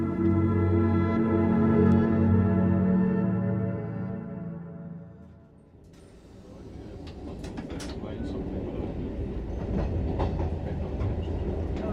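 A train travelling to the Netherlands rolls along the rails with a steady rumble, starting with a humming engine drone that fades, then turning into busier clatter and rattling with sharp clicks from the carriages.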